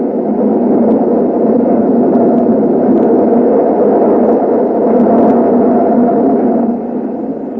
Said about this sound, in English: What's that? It's the L. Goes right past the window. Shakes the whole building.